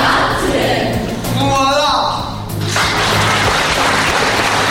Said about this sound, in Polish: Oklaski jak najbardziej zasłużone.